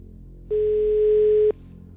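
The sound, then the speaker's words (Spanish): A single steady telephone ringback tone sounds for about a second over a faint low hum after dialing a contest winner's phone number, then cuts off, clear on the line with no one speaking. “Da tono, buena señal.”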